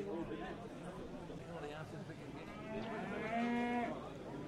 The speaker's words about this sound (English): All on the blue, gentlemen there, great big bullocks they are.